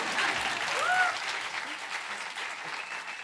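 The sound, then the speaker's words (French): Steady audience applause fills the whole stretch, a dense wash of many hands clapping at an even level, with a brief faint whistle-like tone rising near the start. “Là, vous pouvez applaudir du coup.”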